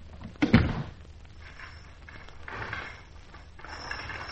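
door being shut

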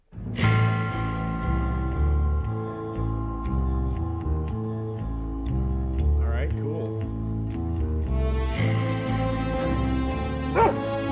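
dog barking and whimpering

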